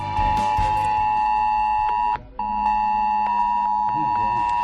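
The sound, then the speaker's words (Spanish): A loud, piercing emergency alert tone from mobile phones in A Coruña and Arteixo, Galicia, during a drill testing the S-Alert mass warning system, blares steadily, cuts out briefly about halfway through, then resumes at the same shrill, buzzing pitch. “Sonaron e vibraron os teléfonos móviles na Coruña e Arteixo, pero chegou tamén este aviso a Oleiros ou Carballo, tal que así.”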